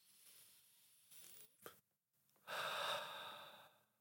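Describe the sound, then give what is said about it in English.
A long, deep inhale drawn in through the nose, fairly loud, preceded by a quieter sniff and brief pause, with no talking. “But don't just breathe. You know, sometimes you can do that and you can completely blank out and meditate, you know, deep through the nose.”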